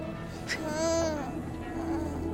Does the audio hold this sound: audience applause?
no